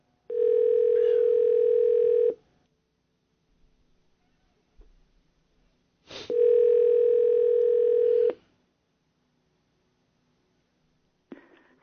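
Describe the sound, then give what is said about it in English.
A phone line hums with a steady, buzzy electronic tone that sounds twice, each about two seconds long with a four-second gap of near silence, as an outgoing call to the speaker's mother rings through. “One's basically in the bird, one is out, but we called my mom just to make sure.”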